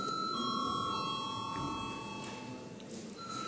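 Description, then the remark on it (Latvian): A parliamentary bell rings before a vote on a bill in its second reading, as one continuous electronic tone, a steady bright chord of layered pitches that holds at an even, moderate loudness for the whole stretch, with no talking over it. “Paldies, lūdzu zvanu.”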